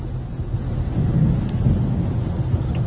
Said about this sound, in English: It's raining out here right now. Oh, damn, I'm out here driving on the highway, boy, raining like a motherfucker.